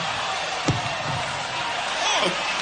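A loud, steady roar of a cheering concert crowd as the band is brought on stage fills the whole clip, with a sharp thump early on and a brief voice rising out of the noise near the end.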